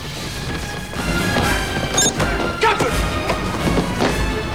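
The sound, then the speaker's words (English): A chaotic brawl aboard Ruafo's ship as Ruafo's crew lay into Gallatin and Worf: repeated heavy thuds, smacks and crashing impacts as Worf punches his attackers and slams one into another, with a dense, noisy background and no clear speech. “Worf punches his attackers and slams one into another.”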